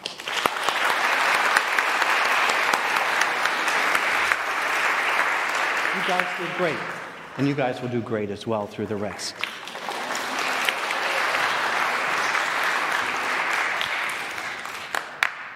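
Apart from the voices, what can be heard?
audience applause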